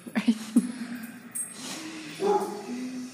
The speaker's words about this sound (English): And Pawnee is very peaceful. He just, only way he can express himself is by barking.